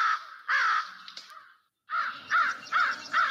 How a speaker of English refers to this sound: So everything you hear is birds. Page 118, American Crow.